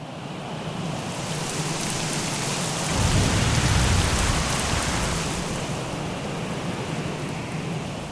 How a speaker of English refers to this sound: And the infrasound of hurricanes are also being studied for use as another method of prediction. Torrential rains and whipping winds of hurricanes get really noisy.